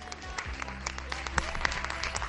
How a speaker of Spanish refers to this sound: Ovación, buena ovación aquí en Valencia. Una vez más para todos los sanitarios, escuchad de fondo.